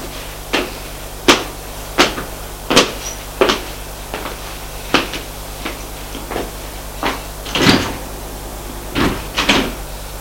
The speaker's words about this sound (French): Ils vont prendre l'ascenseur.